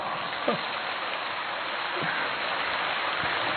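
Steady, dense applause from an audience, a continuous crackling wash of clapping at an even level for several seconds, with a few brief voices rising faintly above it.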